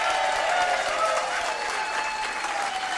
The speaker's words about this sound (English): All right, maybe if we give him a round of applause, he'll come join us.